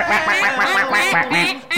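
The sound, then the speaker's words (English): A quick burst of loud, nasal duck quacks, six or seven in rapid succession, prominent with no talking over them, played as a sound effect for the Oregon Ducks football team. “Oregon Ducks.”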